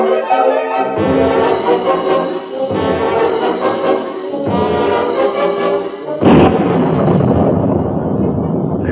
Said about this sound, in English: That lightning. Yeah. Lit up the whole sky. We're in for a real one.